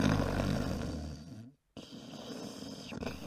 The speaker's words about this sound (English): The snore that he had meant that he would not be waking up anytime soon.